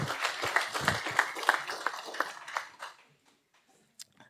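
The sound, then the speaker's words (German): A short burst of scattered audience clapping for the performer's grandmother, called on stage as a volunteer, dense and uneven for about three seconds before fading out, with a couple of faint late claps afterward. “Applaus, meine Oma.”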